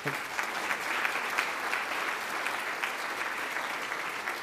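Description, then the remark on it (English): The audience of Lovely Lane Methodist Church claps steadily throughout, giving God a hand of praise; a dense, even wash of many hands with no pauses and no voices rising above it. “Let's give God a hand praise”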